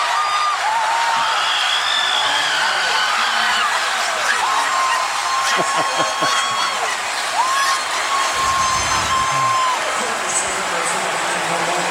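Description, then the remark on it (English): A basketball crowd cheers Auburn's bench players in a loud, steady roar that holds for the whole stretch. High, thin squeaks rise and fall over it, and there are brief thumps partway through. “Crowd enjoying what they're seeing from the bench players from Auburn.”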